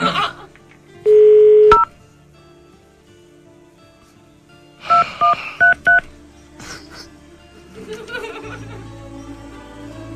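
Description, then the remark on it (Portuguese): A steady phone tone lasts under a second, then four quick, crisp touch-tone beeps of a number being dialed, loud against a quiet background, as a phone call is placed again. “Vamos ligar de novo.”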